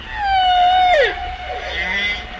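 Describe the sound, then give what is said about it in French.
A humpback whale song phrase recorded near Guadeloupe, off La Désirade: a long, smooth tonal wail that swoops downward, layered with rising harmonics and trailing reverberant echoes as fainter tones follow, over a low rumbling background. “près de la Guadeloupe, encore une autre version de chant.”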